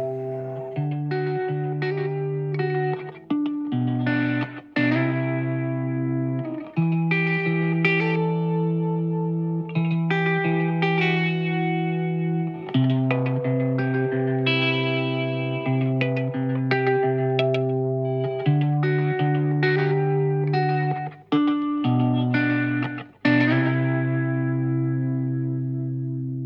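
A song by a music group from Asturias plays steadily throughout, with layered, sustained instrumental tones and an effected, slightly distorted guitar-like sound, no voices, and only a couple of brief dips in level.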